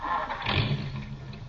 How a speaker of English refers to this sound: I seem to have a knock in my engine. Let me hear it. Start her up.